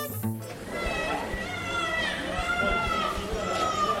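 Several babies cry at once in a hospital neonatal care department in Mali, their high, wavering wails overlapping continuously, with a low murmur of activity in the background.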